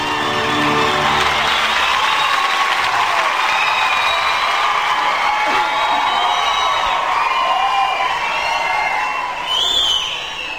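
A large crowd gives a standing ovation, with Simon Cowell among those applauding, for a singer: sustained, loud applause with cheering and whoops, a dense wall of clapping that stays steady for about ten seconds with shouts rising above it.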